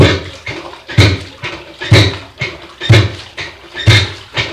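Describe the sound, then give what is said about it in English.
A washing machine churns in a steady rhythm, with a low thump and a swish of water roughly once a second. It is fairly loud, with no voices. “And they tried the washing machine.”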